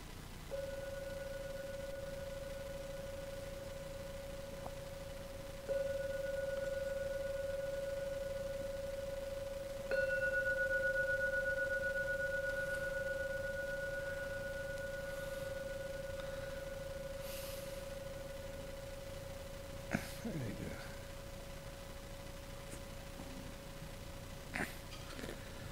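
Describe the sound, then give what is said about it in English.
A gong is struck three times, about five seconds apart. Each strike adds to a steady, humming ring with a clear mid pitch and a higher overtone, which slowly fades over the following seconds. “I can ring the gong 3 times.”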